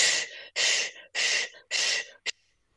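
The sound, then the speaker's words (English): Cleansing breaths of a diver just surfaced from a dive, a breathing sequence done on surfacing: four loud, forceful breaths in a steady quick rhythm, then a short, sharp fifth one. No talking. “If you play that bit of that clip again, you will hear sticks, what are called cleansing breaths.”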